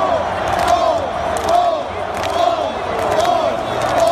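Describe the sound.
A huge stadium crowd of Philadelphia fans performs the Skol chant after the game to troll the Vikings. They boom in unison, with a loud collective clap over their heads landing roughly every second, steady and rhythmic over a constant roar of voices.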